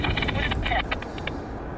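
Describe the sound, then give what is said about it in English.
A city bus on the 109 Maryland Parkway route rumbles nearby, its deep engine drone steady and fairly loud, with brief indistinct voice-like sounds over the top. “I'm hearing one of the buses nearby.”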